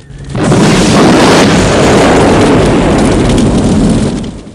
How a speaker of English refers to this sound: Kersey fires his grenade launcher at Jesse, blowing up the car.